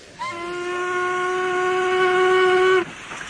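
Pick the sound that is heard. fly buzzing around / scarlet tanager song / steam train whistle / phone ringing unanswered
steam train whistle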